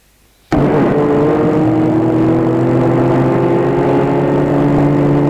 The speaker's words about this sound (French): De loin, il entend une voiture arriver.